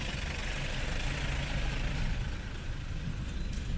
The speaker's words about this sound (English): First gear just bobbing along. It'll probably park up behind us and turn the engine off.